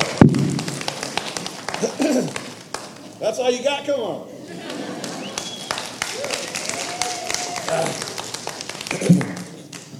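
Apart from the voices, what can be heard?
audience applause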